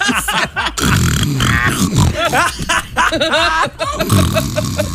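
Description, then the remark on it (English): Loud, exaggerated snoring made by a voice, a continuous run of rough, pig-like snorts and grunts with brief chuckling breaks over about five seconds. “The snoring disturbed everyone.”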